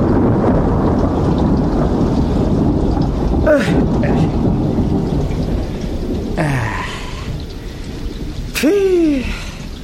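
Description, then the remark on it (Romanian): Steady rain pours over a dense, continuous rumble of wind, with a few sharp crackling bursts and swooping tones cutting through the stormy noise. “Să nu te ia vântul, că ești cam pirpirie. Și eu mă lungesc sub tine să nu mă facă ploaia ciuciulete.”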